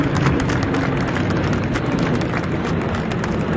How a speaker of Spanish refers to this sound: Es el aplauso de unos familiares que les estaban esperando y que anhelaban reencontrarse con los suyos.